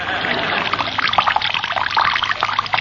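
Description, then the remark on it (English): Water pours steadily from a jug through a rolled-newspaper funnel into a sleeping man's ear, a trickling, splashing stream for a few seconds, fairly loud, with small gurgling bursts throughout and no voices. “I'll roll the newspaper up into a funnel. I'll place the pointed end in his ear. Now, where's the water jug?”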